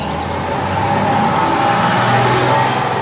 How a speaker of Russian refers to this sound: Как только за поворотом скрылся автобус, увозящий красраба к новой жизни